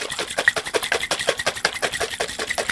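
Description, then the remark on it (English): A lidded jar holding pigment with just enough water to cover it is shaken vigorously, making a fast, steady rhythm of bright sloshing, rattling bursts that keeps going without a break. No one speaks. “And now the next step is to put the lid back on, and I'm going to shake this up really vigorously.”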